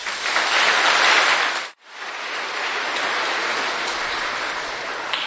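Sustained applause at a Mass for the general minister Father Marko Taska, dense and steady like heavy rain, briefly cutting out for a moment before resuming at a slightly lower level and continuing to the end.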